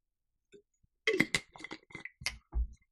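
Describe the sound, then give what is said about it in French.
Someone takes a sip of a drink: a quick run of small clinks and wet slurping clicks, then a soft, low gulp as it is swallowed. “Je prends une gorgée de play avant de vous expliquer tout ça.”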